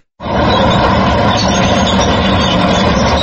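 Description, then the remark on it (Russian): A heavy tank engine roars steadily after a brief silence, a loud, dense low rumble with gritty mid-range noise that holds constant without pause. No one speaks. “Михаил Табатадзе этот рев знает не только по фильмам.”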